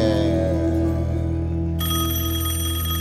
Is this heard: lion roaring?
no